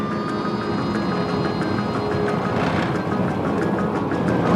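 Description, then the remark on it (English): A car jolts over a rough dirt road on a journey across the Kimberley to the Great Sandy Desert, its steady droning engine noise filling the whole stretch while repeated light rattles and knocks clatter through at a fairly regular pace. “The car rattles through the rough dirt.”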